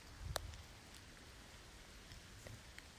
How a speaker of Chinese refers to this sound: 而且外面还在下雨。不是睡觉的最好天气吗？